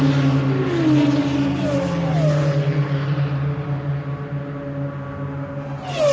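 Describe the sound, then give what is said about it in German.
A racing car, its body adorned with large pipes, roars and revs continuously, its harmonic whine sliding up and down in pitch as the throttle rises and falls, loud throughout with no voices. “Dessen Karosserie große Rohre schmücken, die Schlangen mit explosivem Atem gleichen.”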